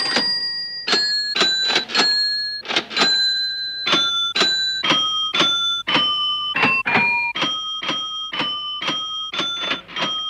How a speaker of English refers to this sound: And so, to introduce it, John Baker from the Radiophonic Workshop made tape loops of a till being rung up, open, closed and slammed, and fashioned them into, basically, somehow, into a rendition of O Come All Ye Faithful.